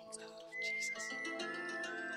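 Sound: person whistling a tune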